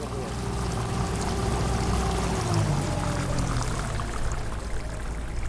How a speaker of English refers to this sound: Find a place to hold on. I drive very slow. This is not a very long trip. It's an extremely short boat ride, but we don't want to go swimming on the way over there.